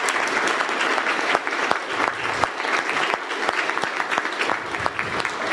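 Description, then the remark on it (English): Steady applause from a group of people for two leaders of the kids and youth, a dense, continuous patter of many hands clapping at a fairly loud, even level throughout, with sharper individual claps poking out now and then. “And some applause for Heather and Laura would be appropriate at this point.”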